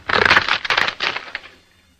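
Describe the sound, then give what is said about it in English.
Wooden fruit boxes being broken up as part of a sound effect created for the Mr. District Attorney show: a loud, dense burst of splintering cracks and snaps for about a second and a half, then quickly trailing off into quiet. “It was made up originally of some fruit boxes being broken, like this.”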